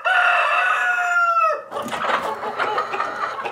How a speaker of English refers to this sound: hundreds of chickens start rushing in from all directions, flying down from the rafters, hustling in from outside. They are excited.